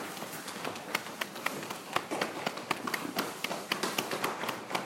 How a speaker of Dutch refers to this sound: Kan je de voeten neerzetten en heel even een beetje de billen nog kloppen. Billen en de zijkant. So you just tap also the side and the sacrum. En ook met het kloppen kan je heel stevig doen. Kan je wat rustiger doen.